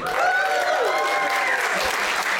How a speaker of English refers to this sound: And that right there is the most applause Howard the Duck has ever got.